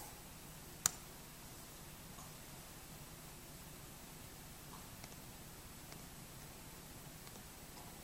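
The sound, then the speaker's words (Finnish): A single sharp click near the start, followed later by a few faint ticks, over a steady soft hiss, as a computer mouse is clicked a couple of times in the Plone web editor. “Ja taas klikkaillaan tästä pari kertaa.”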